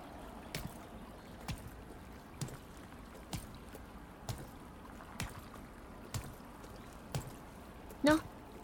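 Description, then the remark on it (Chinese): A trickling stream in a forest murmurs steadily in the background while soft, evenly spaced footsteps fall about once a second as someone walks across the streams, ending with a brief, brighter tonal chirp. “你看，这就是他所在的房子，穿过这些小溪就可以过去了。”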